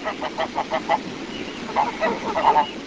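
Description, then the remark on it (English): A flock of about two dozen white domestic geese feeding in the riffles of a creek in a narrow valley, 10 miles northwest of the village of Caledonia, honks repeatedly in quick, overlapping calls, moderately loud, with a soft outdoor background of running water. “On one side of the bank, the woods have been cleared, corn stands in neat rows, and 2 dozen white geese feed in the riffles.”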